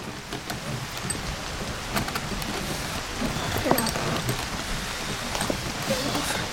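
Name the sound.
rain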